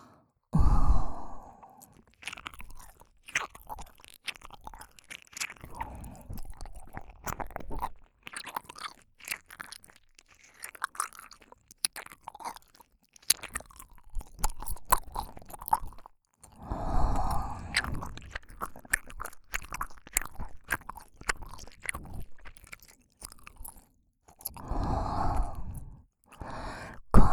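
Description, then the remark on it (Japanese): Crunchy chewing repeats in irregular bursts, mixed with heavy breathy sighs and exhales in between. No one talks, and the sounds are intimate. “咀嚼音で興奮するとは、また随分と特殊な性癖をお持ちなんですね。”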